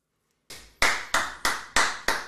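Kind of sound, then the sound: human body sound, hand clapping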